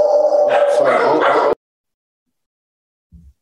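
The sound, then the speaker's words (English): A dog in a home office barks loudly in a quick burst of several sharp, yappy barks that cut off abruptly, followed by near silence and a faint low thump. “We're dog friendly over here.”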